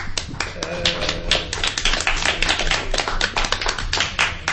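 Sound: round of applause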